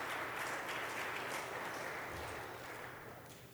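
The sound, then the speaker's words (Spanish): An audience applauds a participant in a dense, steady wash of clapping that holds for a few seconds, then gradually tapers off toward the end. No one speaks over it. “Démosle un aplauso. Ese lleno se lo ganó.”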